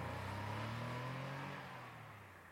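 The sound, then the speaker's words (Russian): A car's tires screech shrilly as the vehicle tears off, its engine roaring loudly with a steady revving tone holding strong before gradually fading as it pulls away; no voices. “Пронзительно взвизгнув шинами, автомобиль сорвался с места.”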